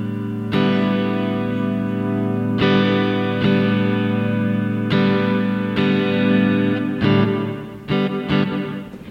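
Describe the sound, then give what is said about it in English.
Electric guitar chords strummed through a Boss Fender Reverb pedal in the effects loop, each hit ringing out with a washy tail, played steadily with no talking. “what I'm doing to kind of give it more of a Fendery sound is in my effects loop, I brought my my Boss Fender Reverb”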